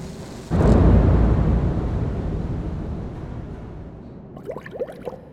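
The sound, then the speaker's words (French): A sudden, heavy explosion set off by leaking gas bursts out with a deep boom, then fades into a long low rumble. A few faint squeaky chirps appear near the end, with no one speaking. “Il y a des fuites de gaz. Intempestif qui déclenche des explosions.”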